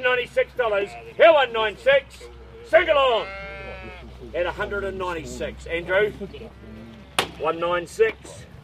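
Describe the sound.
Yearling sheep (hoggets, born last year and coming up to a year old) bleat in a sale pen at a livestock sale, one drawn-out wavering bleat standing out mid-clip among shorter calls, while people talk throughout.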